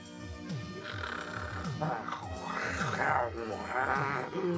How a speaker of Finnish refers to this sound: Ja pelokkaasta tiikeri Kringeristä tuli ylväs satuloitu taistelutiikeri, joka karjuen valmistautui taistelemaan pahan voimia vastaan.